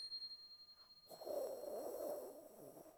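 A tiny handbell rings with a thin, high-pitched tone that hangs on steadily and faintly, while a breathy, rushing noise rises over it partway through.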